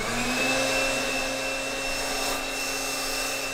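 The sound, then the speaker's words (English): An electric air mattress inflator whirs steadily at a blow-drying station for pinned specimens, blowing air with a constant motor drone and a faint high whine, fairly loud, with no talking throughout. “Now, instead of using a regular blow dryer, like the kind you get from a drugstore, she uses a very specific piece of scientific equipment called an air mattress inflator.”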